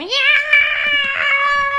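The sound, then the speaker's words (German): A person imitates a cat's meow: one long, drawn-out, loud call that rises at the start and then holds steady for nearly two seconds. “Miau!”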